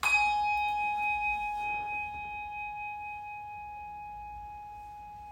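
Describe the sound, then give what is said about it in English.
A single church bell is struck once before a morning worship service, its clear, ringing tone lingering and slowly fading over several seconds in quiet, with no talking. “After the ringing of a bell and the moment of silence, we'll begin our worship this morning.”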